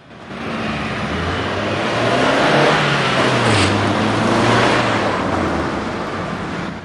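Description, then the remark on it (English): A car passes, its engine noise and tire roar swelling to a peak mid-way and then fading, with a broad rushing hiss throughout and no voices. “walks in circles as a car passes.”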